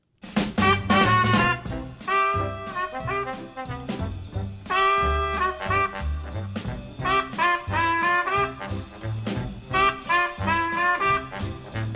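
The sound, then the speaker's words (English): A recorded reprise of a song from the original Snow White plays loud: a lively band with bright horn-like melodies over a bouncing bass and steady rhythmic beat, with no voices. “with a reprise to a song from the original Snow White.”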